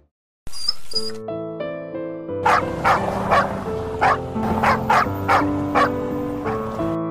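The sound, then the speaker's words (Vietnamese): A scruffy small dog yaps repeatedly, around eight sharp barks in a steady rhythm, fairly loud, over sustained musical tones that begin just before the barking. “Tao không thể nuôi một con chó xấu xí như mày được.”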